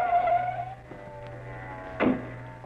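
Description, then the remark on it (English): Car tires screech in a high, wavering skid over a steady engine drone as a car goes off the road, then a short, dull thump lands moments later before the rumble carries on. No one speaks. “Car went off the road.”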